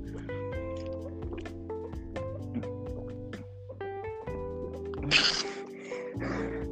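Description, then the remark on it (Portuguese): Someone drinks water, with soft liquid drips and two short, louder wet gulping bursts near the end, over steady background music; nobody speaks. “mas eu vou beber água.”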